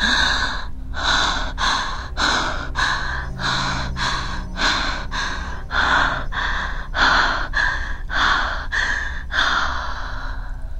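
Rapid, rhythmic, loud breaths, each sharp inhale and exhale following quickly one after another in a steady panting pattern, with no talking.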